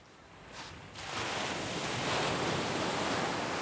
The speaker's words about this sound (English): The quiet beach is the perfect place to talk to her. The sound of the waves is calming.